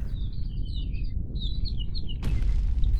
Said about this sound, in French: En parlant d'anecdote, le merle souhaite vous en glisser une autre avant de reprendre son envol.